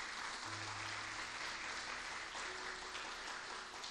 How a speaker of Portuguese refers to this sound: Aplauda Jesus se você está comigo.